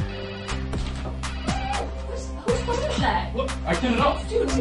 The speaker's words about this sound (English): That's why I've created the Bluetooth ringtone redirector technology. It lets me redirect my ringtone.